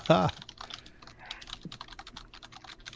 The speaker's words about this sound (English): All right. Who's typing?